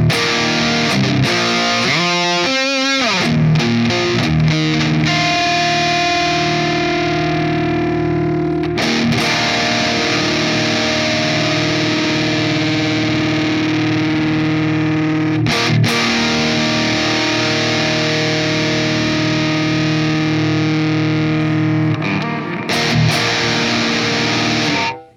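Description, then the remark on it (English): A distorted electric guitar, played through a modulation pedal set to boost the mids, plays sustained chords with a thick, mid-heavy tone and a wavering modulation effect. It is loud and continuous, with a few quick strummed changes and no talking. “All right, from there, I'm going to take the alt, go back to the mod to enhance the mids a little bit more.”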